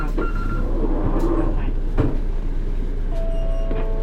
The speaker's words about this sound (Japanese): 扉閉めます